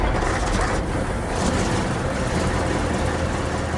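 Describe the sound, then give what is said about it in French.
At 5 a.m., the heavy trucks and armored escort vehicles of a military convoy start up to take to the track again. Their engines rumble together in a dense, steady roar with a deep low-end throb and a hissing upper layer, holding at a constant loudness throughout. “5h du matin, le convoi reprend la piste, redémarrage des camions et des blindés de l'escorte”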